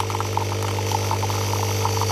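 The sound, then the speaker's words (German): A coffee machine in a camper runs with a steady, low mechanical drone, a rattly buzz of faint irregular ticks and pulses on top, continuous and fairly loud with no voices. “Das ist die Kaffeemaschine, die wir im Camper dabei hatten.”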